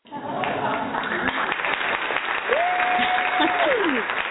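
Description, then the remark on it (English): A show audience applauds a guest steadily and loudly for several seconds, a dense wash of clapping, with a sustained whistle rising out of it partway through and a few cheering voices mixed in. “Because if I open up the door, then you'll probably just hear this.”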